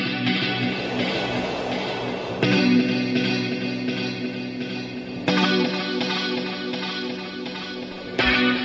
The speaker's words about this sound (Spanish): Esto es un temazo, las cosas como son, ¿eh? O sea, esta guitarra ahí con la reverb, esto...